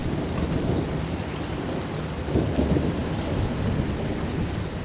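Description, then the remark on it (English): A storm hits a garden: heavy rain pours steadily while low thunder rumbles underneath, swelling briefly midway, with strong, gusty wind driving the downpour. No voices. “A strong wind with rain hits the garden.”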